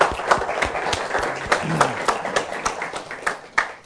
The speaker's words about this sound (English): I want to say, would the veterans that we got please stand this morning? So we got a couple, amen, and we appreciate their service and what they've done, and amen, just give them a round of applause this morning.